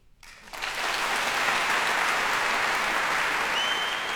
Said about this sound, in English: Catherine Bott at Cadogan Hall, and more wild cheering coming from them.